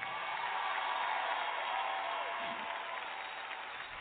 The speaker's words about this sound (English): Before we sing the next song, would you clap your hands for Bishop Charles Ellis?